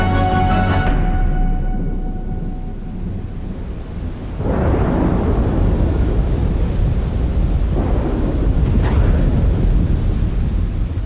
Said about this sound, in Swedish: Den natten då Ronja föddes gick åskan över bergen